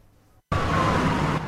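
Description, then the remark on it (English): A loud, dense roar of traffic on a busy street in central London cuts in abruptly after a brief quiet moment, with a faint steady siren-like tone running through the noise. “A busy street in central London, teeming with traffic.”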